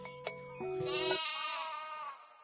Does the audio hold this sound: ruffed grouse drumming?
no